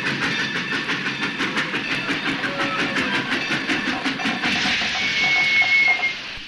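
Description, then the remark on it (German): A steam train at a station rattles past with a steady clickety-clack of its wheels and broad hissing of steam. Near the end a high, thin squeal rings out before the noise drops away. “Dort zischt und quietscht.”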